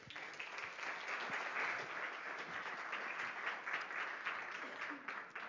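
A crowd at Hope Church applauds a guest in welcome, a dense, even wash of many hands clapping at once for several seconds with a few scattered cheers mixed in.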